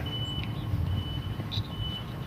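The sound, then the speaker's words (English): A high-pitched reversing alarm sounds in drawn-out beeps over the deep, steady rumble of a front-end loader's engine as it draws its lowered blade backwards from a fence, grading sand and dirt, with no one speaking. “He rides right up to the fence and then puts down his blade and then draws it backwards. That's what the beeping sound is.”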